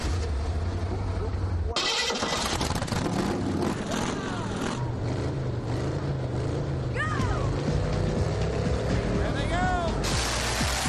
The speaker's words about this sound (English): Gentlemen, you can start your engines.